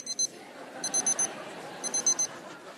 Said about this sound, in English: Uh-oh, sermon time is up. Is that me? This is like my alarm clock.